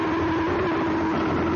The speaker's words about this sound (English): That's the sound of an espresso machine steaming milk to top off our gourmet Arabica coffee.